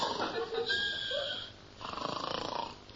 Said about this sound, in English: What's that? I can hear a noise like snoring, too. So can I. I think it's coming from that filing cabinet. Well, open the drawer. Go on, the one marked S. Right, yes. I say, there's a man sleeping inside.